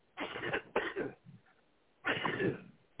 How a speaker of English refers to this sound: let me just clear my throat.